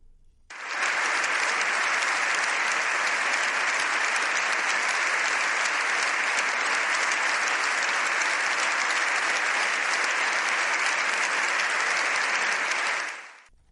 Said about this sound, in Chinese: 教宗的讲话一结束，全场众人立刻起立鼓掌致敬，热烈的掌声持续了七分多钟。